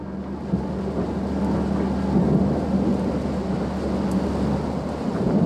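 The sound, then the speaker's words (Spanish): A thunderstorm with heavy rain: a steady, dense hiss of falling rain over a deep, continuous rumble of thunder, loud throughout, with no voices. “Tienes una idea romántica de la lluvia.”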